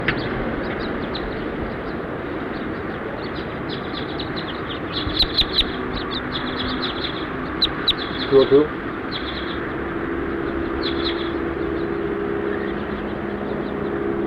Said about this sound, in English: As house finches flew over.